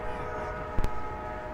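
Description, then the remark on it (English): A train sound: a steady, loud horn-like drone with rich harmonics runs throughout, broken briefly by a sharp noisy burst partway through. No one speaks. “Well, yeah, what happened to the fucking train?”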